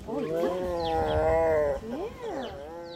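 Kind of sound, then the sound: animal, grumpy tiger growling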